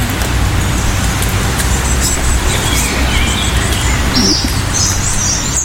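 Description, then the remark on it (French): A European robin sings overhead and a blackbird a little farther off in Normandy, high bright phrases and warbles rising above a steady low rumble of road traffic. “On a le rouge-gorge au-dessus de nous et le merle un petit peu plus loin.”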